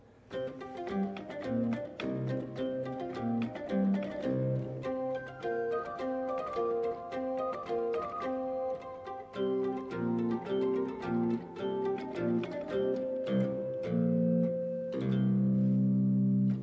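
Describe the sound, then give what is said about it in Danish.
A lute-stop harpsichord, its strings damped by felt pushed against them, plucks a lively melody layered over sustained organ tones, with dense rhythmic picking above steady held notes, moderately loud and continuous with no voices. “Og den cembaloklang kan man jo så også kombinere med orgel.”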